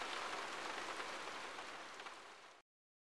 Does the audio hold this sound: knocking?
no